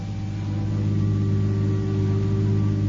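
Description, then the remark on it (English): A car engine hums steadily, a continuous low drone with a slight rising rev, as if heard from inside a moving vehicle, a car driven from the airport in the radio play 'Because of You'. No one speaks. “No one knew of it, only George the butler, who met him with a car at the airport.”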